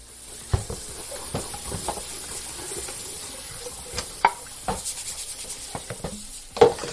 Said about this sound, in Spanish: Les escuchas fregar los platos y los cubiertos de la última comida, a pesar de tener un lavavajillas. Lo hacen para ahorrar electricidad porque para los jóvenes llegar a final de mes es una auténtica odisea.